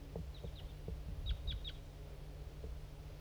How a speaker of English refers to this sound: A male. Another bird. Okay, there's some crossbills around now.